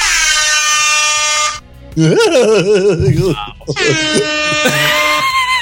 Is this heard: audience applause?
no